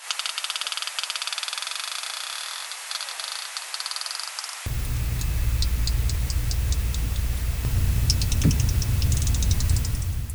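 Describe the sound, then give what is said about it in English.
Sablefish rasps: trains of quick, dry clicking pulses, first a dense crackling run, then sparser sharp ticks over a low rumbling underwater hiss. No one speaks. “Interestingly, the sounds they make are remarkably whale-like. They even called them rasps, named after whale rasps.”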